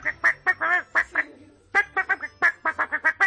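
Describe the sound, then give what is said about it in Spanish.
A voice mimics a parrot playing a bugle retreat call: a quick run of short, nasal, honking notes in a marching rhythm, a brief pause, then another brisk burst of notes, clear. “Tocaba retreta el tío.”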